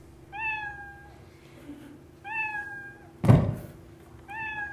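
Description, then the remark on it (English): Three clear cat meows played by a computer program sound at even intervals, each a short rising-then-falling cry, with a single dull thump landing between the second and third. No one speaks. “And there we have those three meows.”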